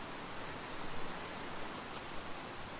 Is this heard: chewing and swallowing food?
no